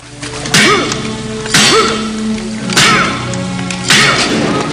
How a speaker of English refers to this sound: The roof caves in, trapping Rambo, Musa and Hamid in the pool of water. Rambo hammers at some bars loosened by the gunfire.